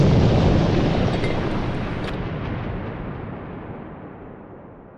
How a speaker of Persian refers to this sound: در همین حال نارنجکی که پرتاب کرده بود در نزدیکی من روی عرض دیوار پاسگاه افتاد و در نیم متری دست راست من منفجر شد.